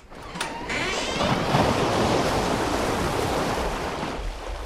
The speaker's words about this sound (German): Das Fenster können auftun und das Rauschen vom Meer hören.